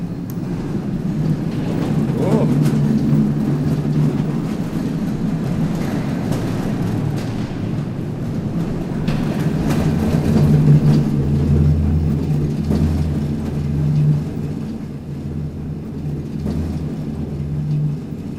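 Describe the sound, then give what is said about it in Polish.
A small rail car of an underground railway rumbles and rattles steadily along its track through an underground tunnel system, a continuous clattering drone with a low hum underneath that swells slightly midway, with no voices. “A kolejka ma jeździć tam, gdzie ruch pieszy już nie będzie docierał, czyli kolejka nie będzie zagrażała pieszemu turyście, czyli od dworca Heinrich prawdopodobnie w kierunku północnym.”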